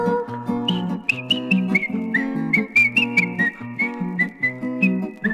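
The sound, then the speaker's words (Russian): A high, squeaky whistle plays a bouncy, playful tune in short repeated notes over a steady, rhythmic musical accompaniment with a low bass line, clear, with no voices. “Ёжик резиновый шёл, насвистывал дырочки в правом боку.”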